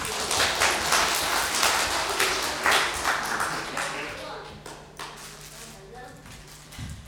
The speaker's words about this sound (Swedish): Vi får ge en applåd till er.